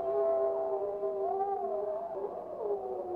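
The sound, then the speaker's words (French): Wolves howl together in a long, unbroken chorus, their steady mid-pitched tones overlapping and gliding slowly up and down, with no talking. “Alors on entend un long cri.”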